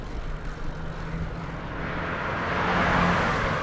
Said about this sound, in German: Hinter Ihnen war direkt ein LKW. Das ist schön, ne? Und dann hört man noch, dass er so ein bisschen mit dem Gas spielt